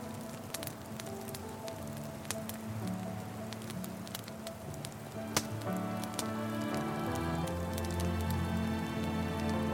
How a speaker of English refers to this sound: You stare deeply into the roaring campfire.